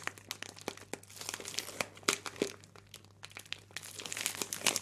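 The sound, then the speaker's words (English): A bag of 100% soy wax flakes for making candles is squeezed and crunched, producing a dense, continuous run of crisp crinkles and crackles, with no one speaking and a faint steady hum underneath. “So I bought this bag of wax flakes. And I remember at the time the bag was really tingly and crunchy and nice.”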